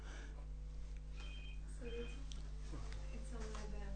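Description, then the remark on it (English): A telephone rings with short, repeated electronic tone bursts, moderately faint, over a steady low hum and some indistinct background voices. “Yeah, I think take the call because it could be somebody wanted to come, say, looking for the address.”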